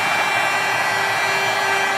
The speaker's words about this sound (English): That led the team to consider changing their goal horn from the one heard for decades at Nassau Coliseum. Thought that would go on forever. Anyway, to a new one, which sounds like a Metropolitan Transit Authority train.